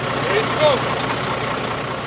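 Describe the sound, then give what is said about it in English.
Trucks idle at 3 a.m. in the Roadstar Trucking yard on the industrial outskirts of Hayward, east of San Francisco Bay, being loaded for stores across Northern California; a steady, dense rumble at an even level, with a couple of faint, brief rising whines early on. “Trucks are loaded up early in this yard so they can get to stores across Northern California before they open.”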